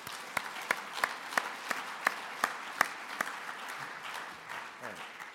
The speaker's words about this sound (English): So these are the people that really make it happen. Can we have a round of applause for them, please?